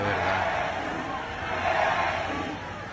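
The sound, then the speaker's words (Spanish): A large crowd cheers and shouts outside a restaurant where Messi is eating, a dense, steady, stadium-like roar of many voices that swells a little louder midway before easing slightly near the end. “Pareció un estadio.”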